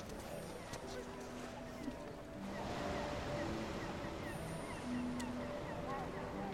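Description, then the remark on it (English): Ocean waves wash in a steady, continuous roar that swells louder partway through and stays full, with faint voices murmuring underneath. “Should we see what the ocean is doing today?”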